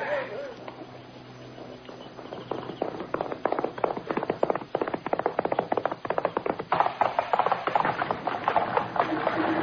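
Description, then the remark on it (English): Horses ridden by a group gallop off with a rapid, rhythmic clatter of hooves that starts sparse and builds into a dense, steady drumming, fairly loud, with possible faint voices at the start. “Come on, boys, hit them horses and get out of here before he spots us and suspects something.”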